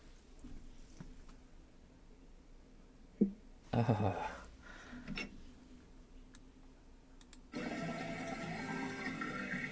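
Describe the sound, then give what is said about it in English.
A few handling clicks and clatters, then a resident's tap water in East Palestine starts gushing steadily into a container, a continuous rushing pour that fills the last couple of seconds. “This is person's water, right?”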